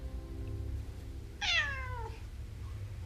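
A single clear cat meow, lasting about half a second with a falling pitch, over a steady low background hum.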